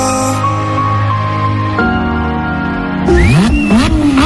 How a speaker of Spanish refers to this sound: Arranquen los motores. Ha llegado la hora de pisar el acelerador.